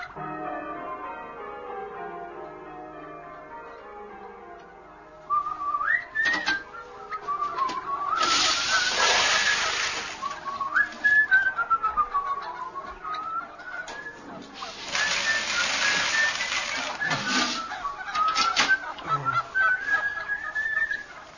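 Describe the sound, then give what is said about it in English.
Birds honk and call loudly and repeatedly, goose-like cries overlapping with bursts of harsh flapping noise, continuous for most of the stretch with no talking. “Don't like them much, then, birds?”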